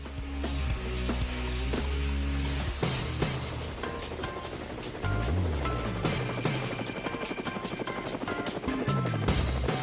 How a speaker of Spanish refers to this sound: Bueno, ahí llegan las aspas del helicóptero